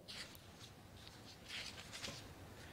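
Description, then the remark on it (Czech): Soft, papery rustling as thin pages of a paper Bible are leafed through to find a passage in Exodus, chapter 35, with several quick crisp flicks and swishes over a few seconds, fairly quiet, with no voices. “A dám vám ještě jeden příklad, abyste věděli, že já to nečtu jenom z papíru, tak tady je Bible, tak já to zkusím najít ten oddíl, který chci přečíst vyloženě v papírové Biblii.”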